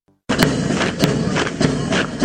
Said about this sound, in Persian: صدای قدم هایی است که برای تمرینات نظامی برداشت می شود.